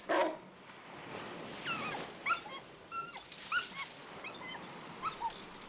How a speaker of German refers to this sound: Was ist bitte mit dem Hund los? Ich sehe mal eben nach, was er hat.